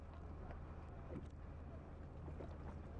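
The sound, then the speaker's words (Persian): A boat moves through water with a steady low rumble, while soft splashing strokes of oars recur every second or so, mixed with light wind noise and no voices. “پارو میزنه. هنوز داره میره.”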